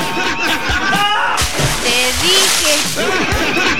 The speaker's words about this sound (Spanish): Te dije, cuidado con la piscina porque te vas a caer al agua. Mira, pero de la lata cabrío no se le cayó ni una gota.